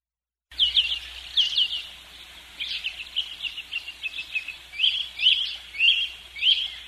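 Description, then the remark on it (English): Birds chirping and singing outdoors, a steady stream of bright, high tweets and short trills repeating throughout, over a faint low background hum with no voices. “All right, the birds beat me back.”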